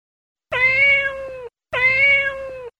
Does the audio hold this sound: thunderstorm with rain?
no